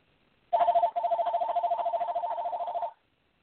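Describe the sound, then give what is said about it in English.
A new telephone at a radio station rings with a call from the Automobile Club of Southern California, a rapid, trilling electronic warble in two bursts, a short one then a longer one lasting a couple of seconds, loud and with no voices. “You ever get a new phone and you don't know how to use it?”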